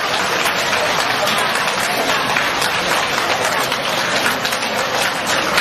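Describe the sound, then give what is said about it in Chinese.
Sustained, dense applause from a large audience welcoming Lu Junhong to give a talk, a steady wash of many hands clapping at an even loudness throughout with no pauses. “让我们用掌声恭请”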